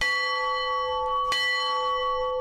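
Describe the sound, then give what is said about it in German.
A large memorial bell rings early in the morning in Miyagi, Japan, marking ten years since the disaster and meant to calm the souls of the dead. It has a sustained, shimmering tone and is struck again midway with a sharp onset, its deep resonant hum lingering steadily with no voices present. “Glocken, um die Seelen der Toten zu beruhigen.”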